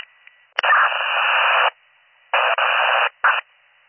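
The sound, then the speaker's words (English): Harsh bursts of static on a county dispatch two-way radio channel hiss on and off: a sharp click, a long crackling burst, a pause, then two shorter bursts, band-limited and fairly loud with no voices. “If you're calling county, it was off static.”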